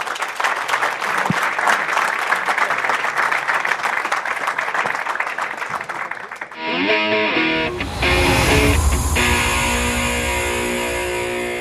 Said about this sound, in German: Auffällig warmer Applaus, als wir die Bühne verlassen haben. Sollte nicht zwischendurch der Applaus lauter sein?